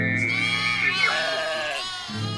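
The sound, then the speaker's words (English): A sheep bleats once, a long, loud, quavering baa that fills the whole moment before trailing off. “when we sing the dumb hole song, we always hear a sheep”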